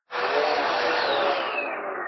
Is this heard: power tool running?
yes